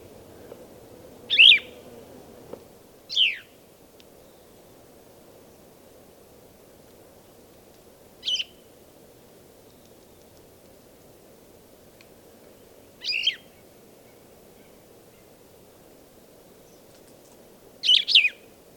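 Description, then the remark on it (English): Five short, sharp bird calls ring out at irregular intervals over a soft, steady outdoor hiss as birds forage, one swallowing a large caterpillar after whacking it against a branch about 3 times; each chirp brief, with long quiet gaps between them. “Birds foraging right now and swallowing a large caterpillar.”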